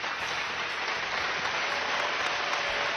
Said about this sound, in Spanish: Aplausos que no eran del PP o de Ciudadanos o de Vox, no, eran de parte de los diputados de los grupos de izquierda, que lo hicieron con cierto sarcasmo.